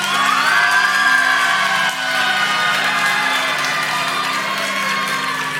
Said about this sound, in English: If you want the good news, cheer or clap right now.